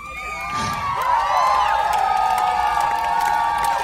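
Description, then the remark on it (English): A large live concert crowd cheers loudly and continuously, with overlapping shouts, whoops and high-pitched screams forming a dense, sustained roar throughout. “Well, look how the fucking crowd got. I'm so grateful.”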